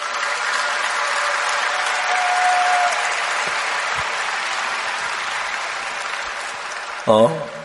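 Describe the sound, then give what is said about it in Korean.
Sustained applause from a large audience, a dense, steady wash of clapping lasting several seconds, with a brief voice breaking in near the end. “올라와서 우리 그 가나 대통령이 부른 노래 한번 들읍시다. 박수 한번 쳐줍시다.”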